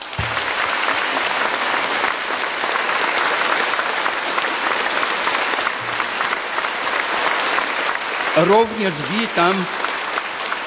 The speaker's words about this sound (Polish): Bardzo serdecznie pragnę powitać kapłanów z duszpasterstwa trzeźwości przybyłych dzisiaj z całej Polski. Porządne oklaski.